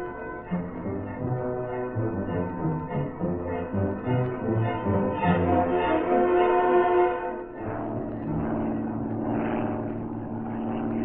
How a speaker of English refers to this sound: Three times within the next 4 hours, Cato in Reed's plane passed over the yacht Quicksilver